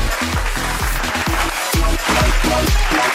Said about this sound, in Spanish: Bienvenidos berreicos y berreicas, el público aplaude, el público está con nosotros, el público está con La Berrea.